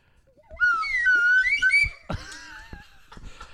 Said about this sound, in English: The slide whistle.